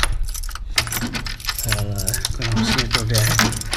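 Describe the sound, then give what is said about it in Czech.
Keys jangle and scrape as someone unlocks a door locked several times over, using a woman's spare keys, with repeated metallic clinks and rattles while a person talks over the fiddling. “Ježíš, ona to má na třikrát. Ježíš, na čtyřikrát.”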